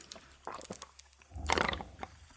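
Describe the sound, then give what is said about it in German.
Tea bubbling in irregular wet pops and gurgles, with a low rumbling swell and a louder burst of bubbling in the second half; no one speaks. “Ich hoffe, das hat man gehört, wie schön blubbert.”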